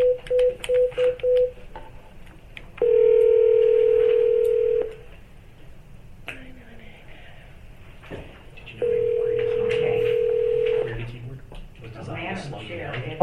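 A quick run of short dialing beeps, then two long, steady ringback tones separated by a pause, heard through a phone line over a low background hum.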